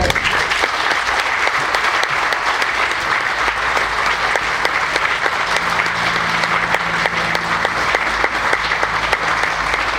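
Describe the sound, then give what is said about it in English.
A crowd applauds steadily and loudly for the full stretch, a dense wash of many hands clapping with a faint low hum beneath and no voices standing out. “Thank you everyone for being here today. I want to applaud.”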